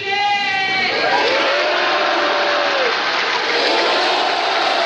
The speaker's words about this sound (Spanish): Ahora sí, ¡viva Chile!, grita una persona en la grada que es respondido por todo el Salón de Honor con un aplauso.